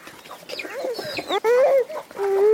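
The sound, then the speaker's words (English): Several chickens roaming around a home compound cluck and squawk in a busy, overlapping flurry of short calls, with one longer drawn-out cackle standing out, over faint outdoor background noise. “She watches chicken roam around her compound as she cuddles her one-year-old.”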